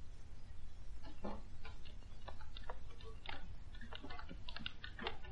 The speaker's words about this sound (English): Oh, you mean the clocks, madam. There are more than 100 clocks in this room. I'm very fond of them. Don't they get on your nerves, ticking away together like a nightmare, striking the hours together?